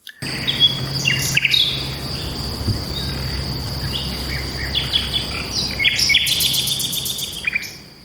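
A migratory songbird sings short, bright phrases in bursts against a constant, shrill drone of crickets and insects, with low outdoor rumble underneath; no one speaks.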